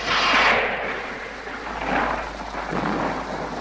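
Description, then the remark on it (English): A loud, rolling clap of thunder over a church during a wedding shakes the windows, rumbling broadly and swelling again before fading slightly, with a steady wash of rain-like hiss underneath and no voices. “The windows are shaken by a clap of thunder.”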